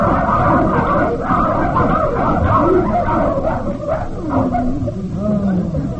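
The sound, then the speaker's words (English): A pack of sled dogs barks and yips continuously and loudly, with overlapping rising yelps and a noisy, crowded background throughout. “Ah, what faithful dogs. They never leave their post.”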